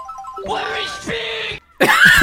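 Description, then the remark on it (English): Loud, strained vocal cries of a woman in labour, giving birth: groaning wails build, break off briefly, then a piercing, intense scream erupts at the end. “This is giving birth.”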